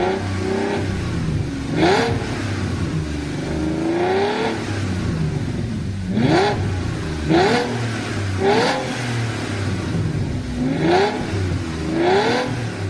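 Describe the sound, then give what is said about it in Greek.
A six-litre W12 engine mounted in the rear of a sports car, rated at 650 hp and 0-100 km/h in 3.7 seconds, revs repeatedly, rising in sharp bursts and dropping back, about five or six revs over several seconds, loud with no talking. “κατάφεραν να χωρέσουν μετά το Phaethon και το Touareg το θηριώδη εξάλιτρο W12, ο οποίος πλημμύρισε το πίσω μέρος του αυτοκινήτου και απέδωσε 650 ύπους, 3,7 για τα 0-100”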